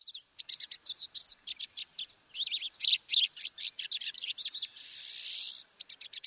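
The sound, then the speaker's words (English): A busy flock of pine siskins chatters continuously while feeding, overlapping high twittering calls with a rising buzzy wheeze near the end, lively, with no voices present. “we can have flocks of over 400 pine siskins all descending on the same tree to chow down.”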